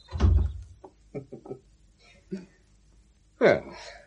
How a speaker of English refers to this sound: Shut the door